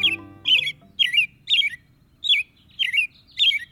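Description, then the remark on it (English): An American robin sings a steady series of short, clear caroling phrases, about seven in under four seconds, bright, with no voices. “American robins have about a 50-50 chance of living through the year.”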